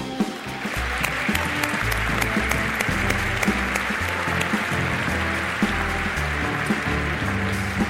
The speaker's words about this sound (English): Thank you, Dr. Album. Let's also give him another round of applause.